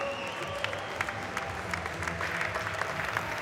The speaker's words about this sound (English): Welcome to the stage with a big round of applause